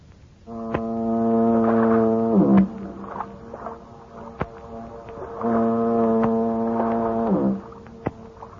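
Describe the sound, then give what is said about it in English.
Two long, deep foghorn blasts booming across San Francisco Bay by the Golden Gate, each holding steady for a couple of seconds before dropping off, with faint clanks and knocks in between, heard alone without any voices. “He gets to dreaming of his hometown, San Francisco, the Golden Gate, and that symphony of foghorns booming across the bay.”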